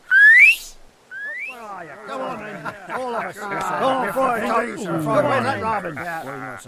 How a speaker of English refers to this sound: Now, give me leave to whistle my fill. Whistle, friar!